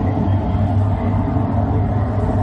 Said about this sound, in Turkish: Bayağı yürüdüğü bir vapur bu arada. Normalde çok daha sessiz olur. Denizin sessizliği daha çok yansıt ama bu vapur biraz fazla gürültülü.